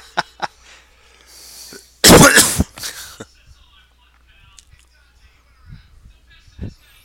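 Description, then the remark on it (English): A short, harsh coughing fit from someone who has been coughing a lot for the last couple of days: a couple of loud, raspy bursts in quick succession, followed by a few faint clicks and breaths. “I hope I'm not getting I've been coughing like crazy the last couple days.”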